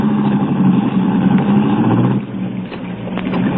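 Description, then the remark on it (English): A car engine drones with a steady, low rumble, a constant loud hum with slight wavering in pitch and no voices over it, heard by people sitting inside the car. “Well, don't get out of the car.”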